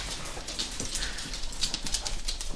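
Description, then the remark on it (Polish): A busy flurry of light, quick taps skitters across a hard floor, many small animal paws pattering at once, with an irregular, continuous rhythm. “To jest pogodny hałas, to jest tupot malutkich łapek. Dużo łapek, bardzo dużo łapek.”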